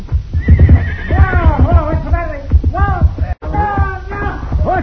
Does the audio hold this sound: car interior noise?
no